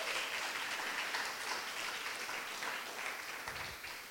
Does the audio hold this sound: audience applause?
yes